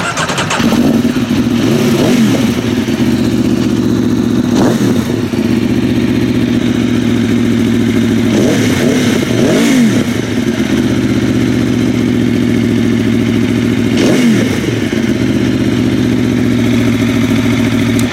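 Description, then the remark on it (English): An Aprilia Tuono Factory motorcycle's 65-degree V4 engine, fitted with an Akrapovic exhaust, idles loudly and steadily, punctuated by several sharp throttle blips every few seconds, each rev rising and falling quickly before settling back to a rumbling idle. “Yeah, that's the legendary 65 degree V4 from Aprilia.”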